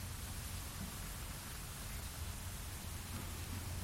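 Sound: rain falling outdoors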